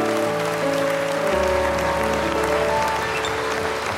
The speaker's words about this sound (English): Would you thank God with a clap offering?